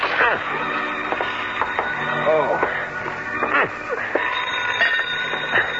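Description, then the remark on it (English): A telephone rings insistently in the background, its ringing partly buried under muffled, radio-like voices and clutter at a steady, moderate volume. “6 to 5, I'd never get there before it stopped ringing.”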